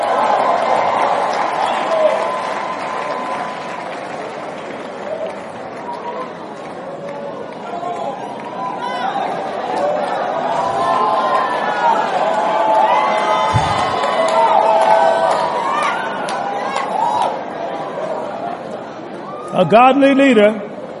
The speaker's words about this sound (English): Give him a hand clap.